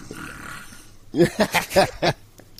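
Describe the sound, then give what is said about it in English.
A puppy lying in her bed gives a quick run of about five short, breathy grunts and whimpers, fairly loud against a faint hiss, then falls quiet. “he's got a puppy. Yeah, is there a making little puppy noises.”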